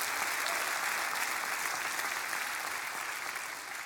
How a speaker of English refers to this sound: Give him a hand clap of praise in this house tonight.